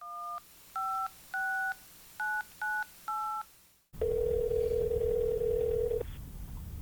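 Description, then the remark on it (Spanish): A woman dials a friend on her cell phone: six short two-pitch keypad beeps in an uneven rhythm, followed by a steady, loud ringback tone lasting about two seconds, with no voices. “Teresa sacó su teléfono celular y llamó inmediatamente a Luisa para contarle lo que estaba viendo.”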